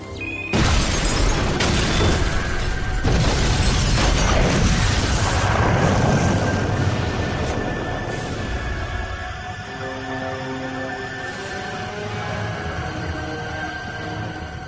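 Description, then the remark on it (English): A sudden loud car bomb blast erupts, followed by a long rumbling roar with crackling debris and shattering glass that slowly fades over several seconds, with a steady high ringing tone throughout. “We probably might have expected that Marianne would have gotten blown up in the car or something”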